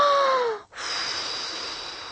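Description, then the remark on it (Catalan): A wolf blows hard at a house, trying to blow it down: hard, forceful blowing like a gust of wind, two long loud breathy whooshes separated by a brief pause, with a faint whistling tone in the first. No one speaks. “I el llop va bufar.”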